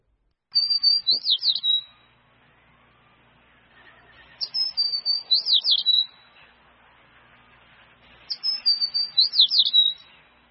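A sparrow chirps in three clear, repeated bursts, each a quick run of bright, high tweets with short pauses between, fairly loud against a quiet background.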